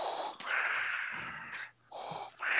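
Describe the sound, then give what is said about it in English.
A voice imitates heavy, raspy wheezing breaths like Darth Vader, several long rough inhales and exhales with a brief pause between them, no words spoken. “You sound like Vader.”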